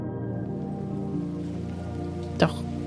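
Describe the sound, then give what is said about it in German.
Heavy rain pours steadily onto a rainforest canopy, a dense, continuous patter with a low rumbling undertone and one sharper splash or knock near the end. “Ein starker Regenguss prasselt auf das Dach des Urwaldes.”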